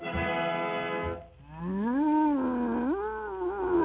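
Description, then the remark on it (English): Jumbo the circus elephant calls out with a loud, buzzy, strongly tonal sound. A steady low blast is followed by a long wavering call that swoops upward and wobbles in pitch, with no talking. “It's Jumbo the Elephant.”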